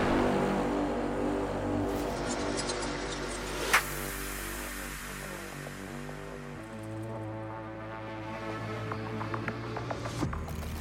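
Synthetic Porsche electric car sound effects from a video on the official Porsche YouTube channel: a steady, layered electronic hum with shifting tones and a sharp whoosh partway through, fairly loud and continuous with no voices.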